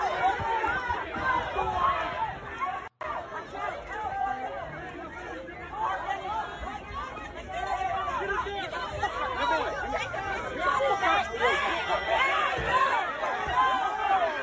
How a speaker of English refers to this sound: Someone in St. Louis drove into a crowd of pro-Palestine protesters, but that wasn't enough. They also got out and started swinging and almost got their ass beat.